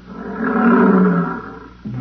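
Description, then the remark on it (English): A deep, sustained lion roar swells to full loudness and then slowly fades, with a second roar starting just as it ends. No voices accompany it. “Oh, here come the lions.”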